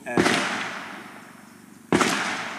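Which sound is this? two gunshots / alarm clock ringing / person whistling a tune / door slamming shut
two gunshots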